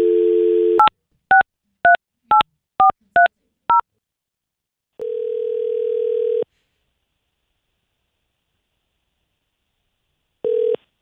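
A brief dial tone, then seven quick touch-tone beeps punch in a number, followed by a long ringback tone, a pause, and the start of a second ring, a call placed by J&C Flowers, a flower shop in Salt Lake City. No one speaks.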